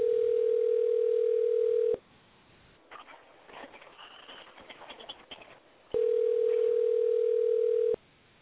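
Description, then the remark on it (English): A phone line rings through the handset: two long, steady ringback tones, each about two seconds, separated by a pause filled with faint background noises, with no voices. “I'm finna call him, get him on the phone, and see what he got to say about it.”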